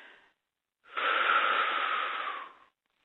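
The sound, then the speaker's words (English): A long, airy deep breath in and out during a guided group breathing exercise, steady and fairly loud for nearly two seconds before trailing off, following a brief softer breath at the very start. No one speaks. “And everybody take another deep breath in and out.”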